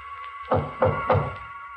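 Three firm knocks on a door, evenly spaced in quick succession, over a steady low background hum with no voices.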